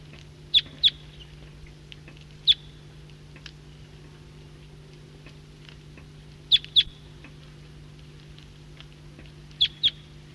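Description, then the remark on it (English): Sharp, high-pitched bird calls from a restless flock of wild birds, all of the same call type, coming in from the east, ring out in short pairs and singles: about eight chirps spaced irregularly over a steady low hum. “Flock of the same call type is coming in from the east. Recording this flock is getting restless and calling.”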